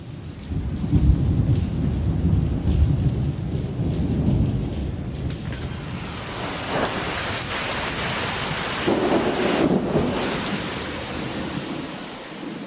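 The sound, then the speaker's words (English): A thunderstorm rumbles with deep, rolling low booms while rain begins to fall, the steady hiss of downpour growing denser and brighter partway through, with no voices present. “Oh, Sam, I think it's starting to rain.”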